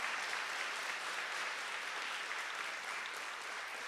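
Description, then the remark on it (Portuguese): A crowd claps steadily, the dense, even applause of an audience applauding Jesus, sustained at a fairly constant level for several seconds with no pause. “Vamos aplaudir Jesus, em nome de Jesus.”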